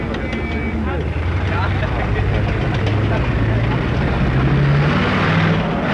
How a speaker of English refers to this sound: As one group pulls out, another group pulls in. You can hear the tanks roaring in now to the headquarters here, military headquarters.